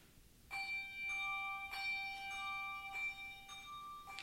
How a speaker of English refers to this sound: Each is arranged interestingly for the singers and is supported by simple tolling patterns called ostinati, provided by the bell.